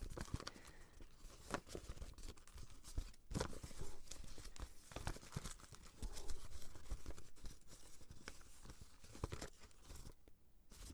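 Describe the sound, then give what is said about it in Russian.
Paper crinkling and creasing, with sharp rustles and soft crunches as a sheet of paper is folded and pressed into a boat or hat, going on steadily for several seconds with no voices. “Конечно, когда вы создаете лодку или шляпу, это ведет к определенным сложностям.”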